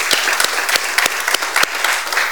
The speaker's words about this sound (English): So I want you to give Pastor Jeff a round of applause.